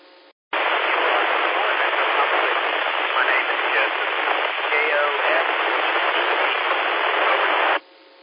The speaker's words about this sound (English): KO4 Echo Papa Whiskey. You're down in the noise just a little bit, sir.